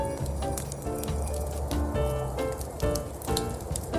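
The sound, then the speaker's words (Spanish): A fire crackles steadily in a fireplace, with sharp pops and snaps scattered over a dense hiss, while soft tonal music plays underneath. “Y más sonido cálido alrededor de nuestra chimenea.”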